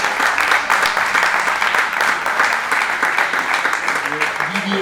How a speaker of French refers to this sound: Donc aujourd'hui, c'est son anniversaire, anniversaire de Michel Serres, on peut peut-être l'applaudir.